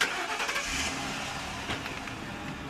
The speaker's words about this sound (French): Avec un beau moteur.